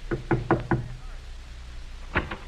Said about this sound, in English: Say, there's someone at the door.